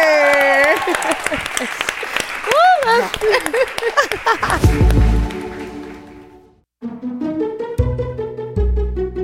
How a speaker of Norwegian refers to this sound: Men du her, gi en varm applaus.